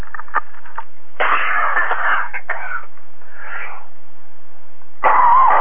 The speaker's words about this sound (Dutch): Hé. Dat was een kuchie die behoorlijk vast zat.